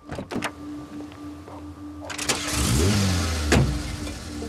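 car engine starting

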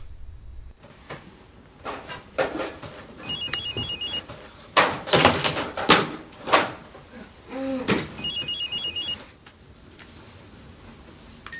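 mobile phone ringing

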